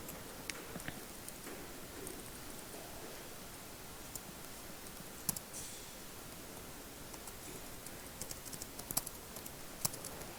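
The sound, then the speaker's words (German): Soft, scattered clicks of typing keyboard shortcuts on a computer keyboard, irregular and fairly quiet, set against a steady hiss of background noise with no one speaking. “jetzt kommen hier die Tastaturkürzel durcheinander.”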